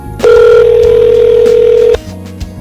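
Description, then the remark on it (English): A house phone rings once on the other end of a call: one steady electronic ring tone held for almost two seconds, loud and clear, then cutting off into a faint low hum. “I'm going to remix this whole show as just the phone ringing.”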